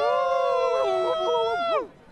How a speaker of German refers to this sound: Und wie sehr freut ihr euch? Jetzt muss ich euch mal ganz laut schreien hören.